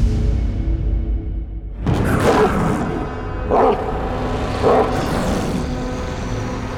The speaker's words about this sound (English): The distant barks of a monster woke the sleeping man.